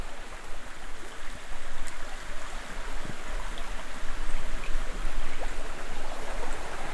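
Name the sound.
small river flowing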